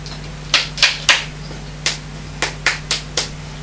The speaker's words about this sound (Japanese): 大根切りますか、大根。トントントンしますか。ね、こっちじゃなかったっけ、トントントンは。この大きい方じゃない？違う。トントントントン。